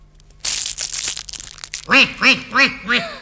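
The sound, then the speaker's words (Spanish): A rough crackling and crunching as a large spotted egg breaks open, then four loud, hoarse, off-key quacks in an even rhythm from a big, fat, black duckling. “¡Qué ronco! ¡Qué desafinado, ¡Y mira! ¡Es negro! ¡Y qué grande y gordo!”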